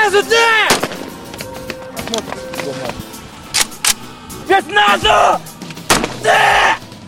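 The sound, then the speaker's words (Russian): Sharp assault rifle shots crack out at irregular intervals, loud, with no sustained automatic bursts, as soldiers fire after an obstacle course in a beret qualification test. Voices shout and talk between and over the shots. “После прохождения полосы препятствий боец должен доказать свою боеготовность исправно работающим оружием.”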